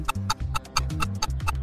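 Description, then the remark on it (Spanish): Cricket chirping in a quick, steady rhythm, about four sharp pulses a second, clear over a low, humming musical backdrop. “El grillo.”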